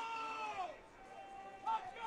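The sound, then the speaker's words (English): A crowd of Viking football fans shouts over a steady roar during their team's offense, with a few raised voices standing out and a brief swell in the noise near the end. “And you can hear the Viking fans shouting on their offense here.”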